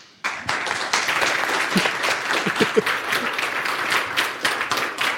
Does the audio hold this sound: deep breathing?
no